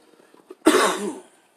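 coughing

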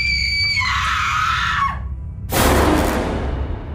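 scream sound effect

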